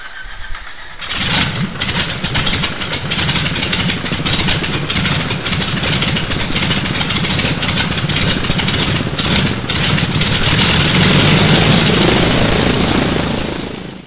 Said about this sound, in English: Okay, sounds like the engine's running,